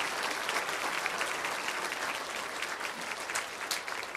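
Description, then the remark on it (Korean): An audience applauds steadily to encourage teachers and the kindergarten, elementary, and twenties and thirties youth groups, a dense wash of many hands clapping at once with no pauses, holding an even, fairly loud level throughout with a few sharper individual claps standing out. “수고한 유치부, 초등부, 그리고 20대, 30대 청년들 우리 다시 한번 박수로 격려해 주시기 바랍니다.”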